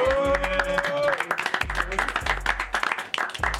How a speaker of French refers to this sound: Un tonnerre d'applaudissements pour...